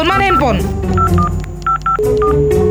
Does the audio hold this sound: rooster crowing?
no